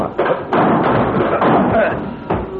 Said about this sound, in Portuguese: Arrombe a porta. Depressa.